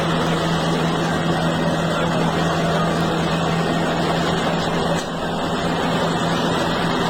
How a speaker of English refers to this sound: Yeah, it goes on. It's just a bunch of tractor. It's a tractor spewing a bunch of fertilizer and stuff on the cops, and they stand there.